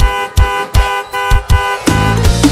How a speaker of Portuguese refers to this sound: Tô nem aí se tem vizinho reclamando. Buzina aí, vai. Se ela não vir, eu continuo buzinando.